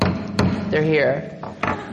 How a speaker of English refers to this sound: Oh no, I forgot to bang the gavel. If you're listening on the radio, it started already, but it's starting now for real.